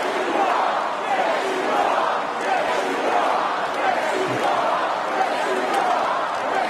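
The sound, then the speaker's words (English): A large crowd at a Donald Trump rally cheers and chants in unison after Trump says he is not supposed to be there tonight, a dense, steady roar of many voices at high volume with a rhythmic pulse to the chanting. “When Trump said, "I'm not supposed to be here tonight," the crowd responded with...”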